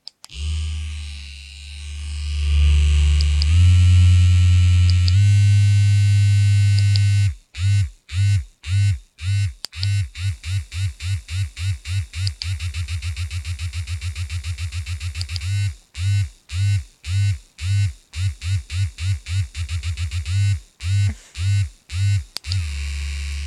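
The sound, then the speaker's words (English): A soft, curved purple sex toy with a clitoral suction feature vibrates with a steady low hum that shifts pitch, then breaks into rapid rhythmic pulsing bursts, switching between its different fast and slower pulse settings, with no talking. “So I just have the vibration on right now.”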